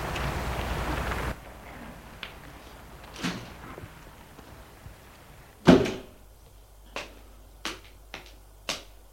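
A building door opens with a loud latch clunk after a burst of outside noise cuts off, followed by a few sharp, evenly spaced clicks or footsteps. No one speaks.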